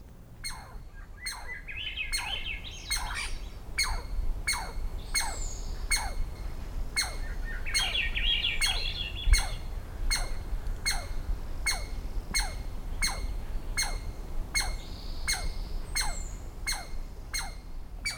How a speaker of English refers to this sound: In the following recording, Swainson's thrush and an alarmed squirrel share the soundstage.